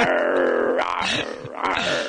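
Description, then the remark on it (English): A person makes a sustained, raspy growling sound with the voice, rising and falling in two gritty surges over about two seconds, fairly loud and with no words. “I'm growling at you.”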